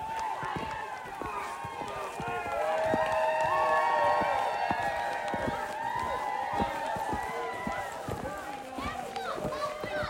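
Children shout, squeal and call out excitedly during a snowball fight on a hill by a trail off Chester Creek, their high voices overlapping steadily for the whole stretch, with no clear words standing out.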